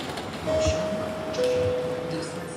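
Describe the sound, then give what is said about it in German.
Steady rumble inside a moving passenger train in Warsaw, Poland, travelling from Warszawa Zachodnia toward Warszawa Centralna station, with a broad hum of the carriage and a thin whining tone that rises in and shifts pitch partway through. “steigt zu mir in den Zug in Warszawa-Zachodnia.”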